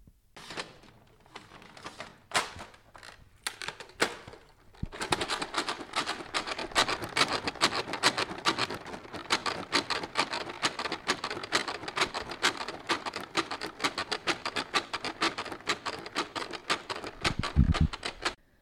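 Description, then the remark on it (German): Bottles of pigment ink for a pigment printer are shaken to loosen the pigments, first in a few sparse, clicking bursts, then in a steady, fast rattling patter that continues without pause. No one speaks. “Aber wie wir festgehalten haben, Drucker sind halt Divas, also werden wir jetzt erstmal fleißig Farben schütteln, damit sich die Pigmente lösen.”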